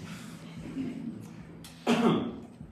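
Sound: coughing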